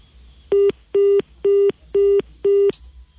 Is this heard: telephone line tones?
yes